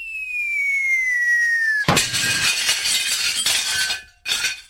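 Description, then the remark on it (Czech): A high whistle slides downward, then a sudden loud bang shatters a coffee cup, crashing crockery with clinking fragments scattering for a couple of seconds, followed by a brief second crash. “Ta rána rozbila mi šálek na kusy a odřela mi knír.”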